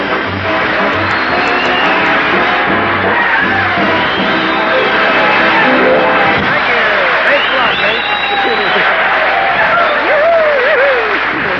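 A large audience claps loudly and steadily, with scattered cheers and shouts rising from the crowd for several seconds, the dense applause filling the whole stretch without pause, as comedian Red Skelton is introduced on the Raleigh Cigarette Program.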